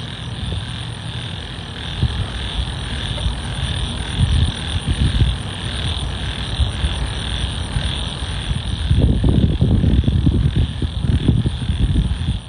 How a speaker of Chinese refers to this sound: 而且到了晚上，走在公园里，时不时就有这种清凉的风吹过来，晚上的曼谷还是非常舒适的。我也录下了我在公园当中听到的虫鸣、鸟叫、风刮过的声音。